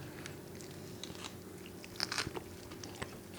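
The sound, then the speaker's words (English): Wet, sticky chewing of smoked oyster on peanut butter, with a few crunchy bites and smacking mouth sounds over a low steady hum, fairly quiet, no talking. “Yeah, I mean, it's got smoked oysters on peanut butter.”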